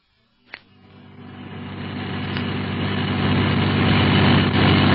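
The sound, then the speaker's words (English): A sharp click, then a car engine starts and settles into a steady, low rumbling drone that slowly grows louder over several seconds, with no voices. The car is being driven through Casablanca to an address on Lausanne. “We'll get a car of our own and go to that address.”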